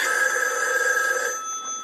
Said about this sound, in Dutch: U hoort een telefoon.